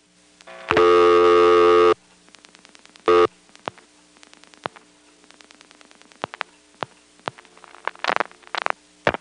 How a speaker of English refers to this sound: Now I'm going to dial 825 plus 3 digits, flash, and then dial 9999, a quadruple ringing number.